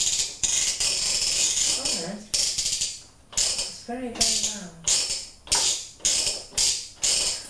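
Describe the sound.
A cement mixer churns with a harsh, grinding mechanical noise that swells and drops in a steady, repeating rhythm, loud throughout, with a couple of brief voices cutting in.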